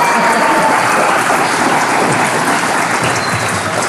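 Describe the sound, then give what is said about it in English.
A crowd applauds the husbands for coming, a dense, even wash of many hands clapping at once, holding loud and constant for several seconds with no voices rising above it. “How about an applause for the husbands for coming here?”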